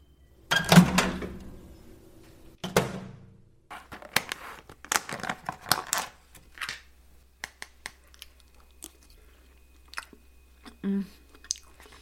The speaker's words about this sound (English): You thought we'd stop doing the ASMR chewing. We came back with even more.